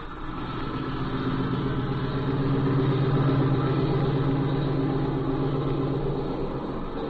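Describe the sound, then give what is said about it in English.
A small plane's engine drones steadily at low power as it taxis toward a shed after landing, a loud, even rumble with a buzzing hum that holds for several seconds without pause. “I suppose we might as well taxi right over to that shed.”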